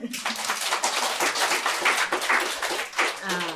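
An audience breaks into steady applause at the close of a sermon, many hands clapping in a dense, bright patter that holds at an even level for several seconds, with a few faint voices mixed in.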